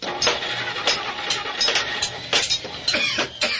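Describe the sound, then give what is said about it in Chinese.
A car engine cranks and turns over at a car repair shop, then runs in a rough idle with irregular revving bursts, fairly loud, with no voices. “哦，是修理汽车。小鹏的爸爸每天为别人修理汽车”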